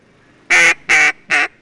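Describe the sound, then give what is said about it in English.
Three loud, nasal quacks from a duck call, a small barrel with a mouthpiece and reed, blown in a steady, evenly spaced rhythm, each a short buzzy burst with quiet gaps between and no talking. “And finally, they learn the cadence of a duck.”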